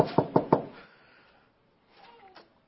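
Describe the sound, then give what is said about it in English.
Three quick, firm knocks on a door in a steady rhythm, fairly loud, followed by a short pause and some faint, muffled sounds. Carter, who has studied carpentry, knocking at the door. “Now, Carter comes to your door.”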